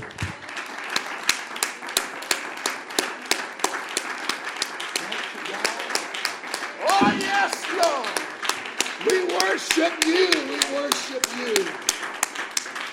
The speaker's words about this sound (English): Would you clap to the Lord a praise offering?